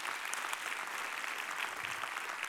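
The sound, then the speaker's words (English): Steady, dense applause from a large church audience honoring the church's pastors, a continuous wash of many hands clapping at an even loudness throughout, with no voices standing out above it. “Would you give these guys a round of applause?”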